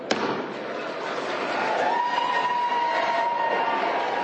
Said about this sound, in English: There you go, and the cheering goes up.